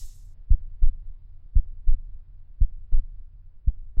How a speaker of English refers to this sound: And now, again, hark! Louder! Louder! Louder! Villains, I shrieked. Dissemble no more. I admit the deed. Tear up the planks. Here, here, is the beating of his hideous heart.